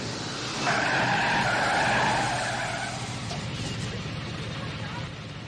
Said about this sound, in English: flips the car in reverse.